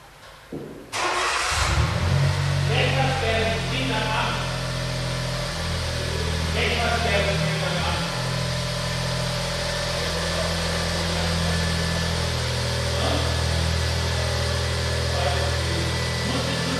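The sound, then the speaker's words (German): After a moment of near quiet, a Smart Roadster sports car engine fires up and settles into a loud, steady, throaty hum with a deep low rumble that continues without pause. “So, das Brummen, was ihr hört, das, ob ihr es glaubt oder nicht, ist der Smart Roadster”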